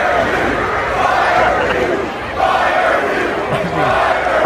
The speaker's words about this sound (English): We have now an actual crowd chanting "Fire Hugh." I mean, we didn't have to make this up. No AI. Like, no fancy schmancy. No, it's real.